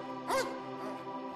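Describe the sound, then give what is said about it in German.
A single quick, high dog yip bursts out near the start, then fades into a steady tonal hum that continues underneath without further barks; the dogs are small and large, puppies and older ones, romping over mossy hills and grassy meadows. “Es sind Hunde, kleine und große, Welpen und ältere, die fröhlich über moosbewachsene Hügel laufen oder durch das frische Gras großflächiger Wiesen toben.”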